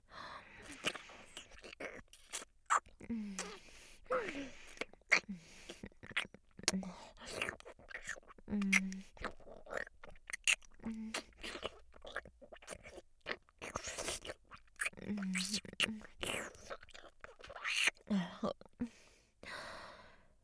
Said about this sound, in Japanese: 目を閉じて、クチュクチュ鳴る音に集中していてください。